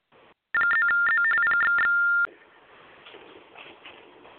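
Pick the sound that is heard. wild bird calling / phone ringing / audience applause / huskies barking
phone ringing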